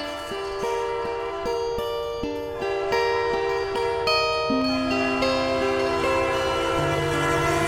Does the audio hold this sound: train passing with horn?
yes